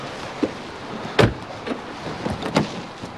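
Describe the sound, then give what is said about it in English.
A car door slams shut with one solid thump, followed by several lighter clicks and knocks as the locks engage. No voices are heard. “Did we just lock our baby in the car?”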